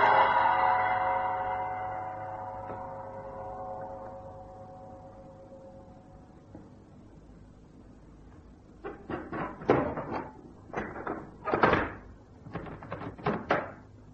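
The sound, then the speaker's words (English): A single deep gong note rings out deep inside a temple building and slowly fades over several seconds; after a pause, a run of muffled knocks and clatters follows. “A gong sounded deep inside the building.”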